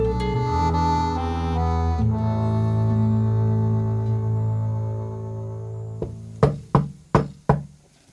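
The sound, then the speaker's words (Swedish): A sustained, humming musical tone fades out, then four quick, light, discreet knocks on a door by a small fist follow in an even rhythm, fairly soft. “Knackningen på dörren var diskret.”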